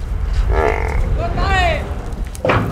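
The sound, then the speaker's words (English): Water buffalo at a buffalo market in central Rajasthan, India, bellow twice in long, wavering calls, followed by the start of a third, over a steady rumble of gusting hot wind and market noise. “At this buffalo market in central Rajasthan, gusts of hot wind blow dust and dung through the air.”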